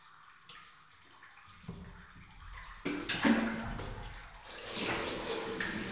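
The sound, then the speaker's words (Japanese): Bath water sloshing and splashing in a special yuzu bath, starting as a soft swirl and swelling into heavier surges and waves midway through, as if a body is lowering into a full tub. “わーやー、ぬしぬしの荒波に流されるっす。”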